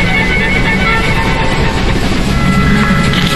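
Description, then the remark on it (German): A train rolls steadily along the tracks, minutes from reaching the station at Spartanburg, its wheels producing a continuous rumbling clatter with a faint rhythmic clack, fairly loud, with no voices. “Meine Damen und Herren, in wenigen Minuten erreichen wir den Bahnhof von Spartanburg.”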